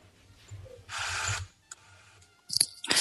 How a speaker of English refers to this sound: She reaches for her pill bottle, pours herself a glass of water, shakes out the pill, swallows it, then reaches for the phone again and dials nervously.